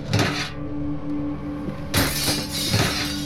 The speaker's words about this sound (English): He smashed through the window with a garbage can and stepped inside.